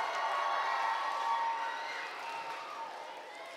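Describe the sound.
A crowd applauds steadily for a few seconds, a dense wash of many hands clapping with a faint murmur of voices mixed in, holding fairly even before easing slightly.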